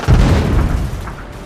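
A loud 60 mm mortar shell strikes a trench, the explosion bursting almost immediately, its deep booming rumble rolling on and slowly fading over the next second, with no voices present.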